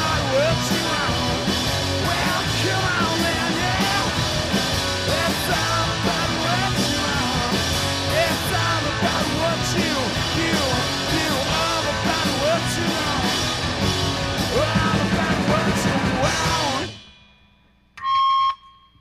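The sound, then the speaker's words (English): A screaming sound effect, played by mistake after the wrong switch was hit, blares as a loud, dense wall of screaming and yelling continuously for about seventeen seconds, then cuts off abruptly, followed by a brief high electronic tone near the end. “I think at the end, the screamer starts. I hit the screaming. Wrong switch.”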